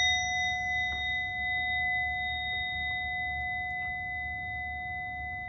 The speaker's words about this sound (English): And at the sound of the bell, we'll end this.